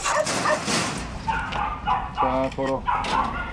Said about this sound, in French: Et puis nous voilà maintenant dans un élevage de chiens en Corée du Sud. Oui, élevage de viande de chien, précisément un plat traditionnel en Corée du Sud.